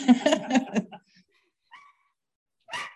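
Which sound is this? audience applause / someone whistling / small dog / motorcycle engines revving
small dog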